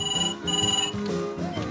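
A telephone in a kitchen rings in two quick, bright electronic bursts, followed by a softer tonal background with no one speaking.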